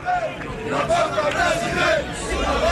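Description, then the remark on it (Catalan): A dense crowd hubbub of many overlapping voices outside Joan Laporta's box at 9 pm, with rhythmic chanting rising and falling in pitch through it, steady and fairly loud throughout. “Aquest és l'ambient a fora el box de Laporta.”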